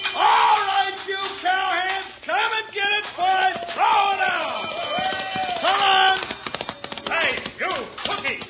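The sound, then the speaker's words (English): A chuck wagon dinner triangle clangs in quick, rapid strikes, loud, rising near the end, near a nervous cattle herd. Shouting voices and bellowing cries overlap it through much of the scene. “On the triangle, I'll wrap it around your neck. Now, what's the matter? I thought it sounded right pretty.”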